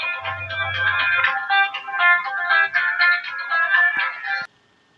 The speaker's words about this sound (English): Okay, I paused this for a second while Michael's phone went off, and sounds like it hasn't come back on again.